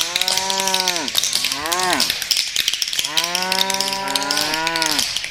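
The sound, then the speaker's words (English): Cows moo loudly: a long low call, a shorter rising-and-falling one, then a drawn-out moo lasting about two seconds, over a steady hissy outdoor background. “live from where some cows have been prat dancing.”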